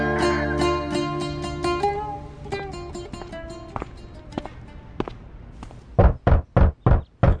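Soft, sustained music plays and fades, then the hotel owner knocks five firm, loud times on a hotel room door, evenly spaced in a quick, steady rhythm at the end.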